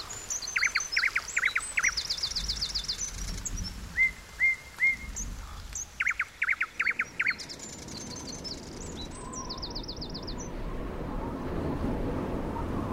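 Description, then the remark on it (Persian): Several birds chirp and sing in quick, bright trills and short whistled notes for the first seven seconds, after a rain shower has fallen and freshened the trees; then the calls fade, leaving a soft low rumble with a faint chirp. “باد ابر را قلقلک داد، باران چک چک بارید. درختان تازه شدن، پرنده ها خوشحال شدند.”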